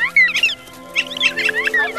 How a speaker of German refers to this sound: Ich höre nur Gezwitscher.